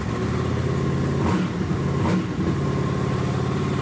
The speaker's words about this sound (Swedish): ljudet av en motorcykel som vaknar upp efter en hel vinter och bara spinner som en katt